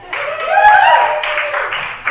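A burst of audience applause for a guest as the event wraps up, a dense steady wash of clapping lasting about two seconds, with a rising whoop or cheer riding over it partway through.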